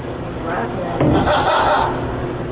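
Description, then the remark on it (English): A green parrot climbing around its golden cage, in the soggy basement dining area of an Italian restaurant, lets out a squawky, voice-like laugh imitation, a continuous burst of chuckling that swells in the middle and carries on for a couple of seconds. “This was the formal dining area, now a soggy dungeon of tipped over furniture, shocked ficus trees, and climbing around its golden cage, a green parrot with an ill-timed laugh.”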